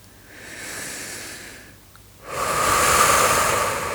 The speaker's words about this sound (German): Atme ganz fest aus. Und wieder ein.